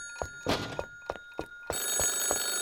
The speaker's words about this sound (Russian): Ой, это же телефон звонит, надо ответить.